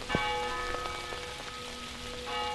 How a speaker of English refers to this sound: Bells from a rainy Hampstead, New Hampshire.